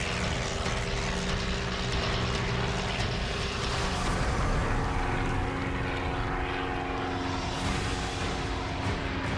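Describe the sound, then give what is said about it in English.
A propeller plane heavily loaded with meat and gear roars at full power down a runway, a loud, steady droning hum with a strained, heavy tone as it builds speed for takeoff. No voices, just continuous engine noise. “We got about halfway down the runway, and then is this thing going to fly?”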